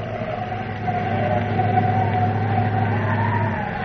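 A steady, rushing wind roars throughout, with a wavering mid-pitched howl rising and falling over a low rumbling drone, like a dust storm blowing without letup.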